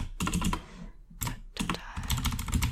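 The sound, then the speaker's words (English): Rapid clicking of keys on a computer keyboard, fairly loud, in quick uneven bursts with a brief pause near the middle; no voices. “You know what, I don't think I'm actually gonna keep you around for a lot of the typing, just because it's gonna take a long time, and it's a lot of, like, internal debating on my part.”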